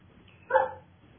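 A single short dog bark from a dog wanting to come in, slightly muffled, over a quiet low background hum, with no voices present.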